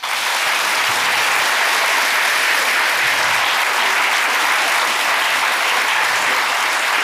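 A large audience claps steadily for about seven seconds, as those who say they are here today with family are asked to clap: a dense, loud wash of applause with no pauses and no voices standing out.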